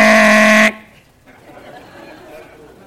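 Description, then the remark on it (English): A loud, brassy air horn blast sounds for under a second, then cuts off abruptly, leaving faint background murmur and room noise. “What's the air horn?”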